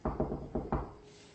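knocking on a door

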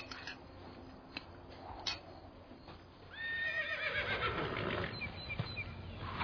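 horse whinnying

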